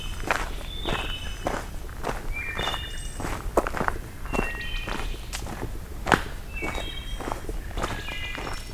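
Steady footsteps crunch along a forest trail as someone walks to pick up a microphone, evenly paced, with wood thrush birdsong chirping faintly in the background and no one talking.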